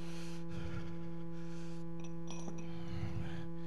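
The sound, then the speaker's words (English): Small glass communion cups clink lightly against each other a few times, faint, over a steady electrical hum and low rumble, with no talking. “These cups are glass.”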